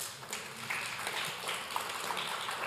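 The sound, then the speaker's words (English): A church audience claps because the computer made it through the third service, a dense patter of many hands blending into an even wash of applause that holds at a moderate, fairly soft level throughout, with no voices over it. “Y'all can clap because our computer made it through the third service.”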